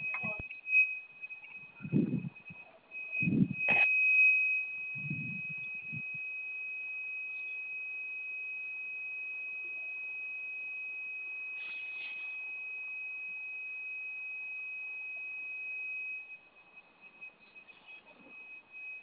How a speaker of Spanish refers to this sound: ¿Me comentas que se quedó con un pitido la chapa? Sí, no sé si lo escuchas hoy.